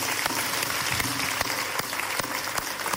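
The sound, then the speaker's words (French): The studio audience of the Karine Show, a talk show in Lomé, applauds themselves: a dense wash of many hands clapping steadily with a few sharper claps standing out, sustained at an even level throughout without anyone speaking. “Alors, applaudissez-vous vous-même.”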